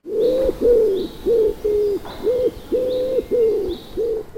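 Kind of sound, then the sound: bird, pigeons cooing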